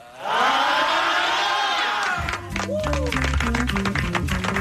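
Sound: concert crowd cheering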